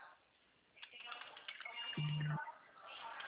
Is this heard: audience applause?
no